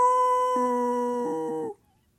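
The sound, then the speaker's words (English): A man imitates a werewolf howl while sneaking up on children from the bushes at night: one loud, sustained, steady-pitched mid-range howl that holds for under two seconds, a lower tone joining partway through, then stops abruptly into silence. “you know, and sneak up and be the werewolf.”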